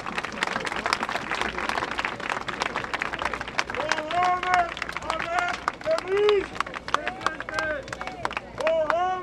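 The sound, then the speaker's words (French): A crowd applauds steadily, dense rapid clapping filling the whole stretch at a loud, even level, while voices call out and cheer over it in the latter half, welcoming a father invited to speak to them. “On l'applaudit encore.”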